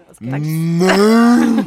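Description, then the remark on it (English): A person imitates a cow mooing: one long, loud lowing call lasting about a second and a half, its pitch gradually rising before cutting off. “No, cow, people think cows go moo, but actually they go...”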